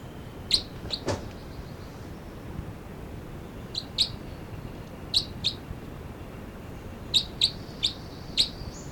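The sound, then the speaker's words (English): Sharp, high-pitched calls of two birds numbered 305 (the male) and 306 arrive in scattered short bursts, some doubled or tripled into quick chittering, the chitter from 306, over a steady low background hiss. No one speaks. “305 and 306 here, and these are calls of it's 305 and 306.”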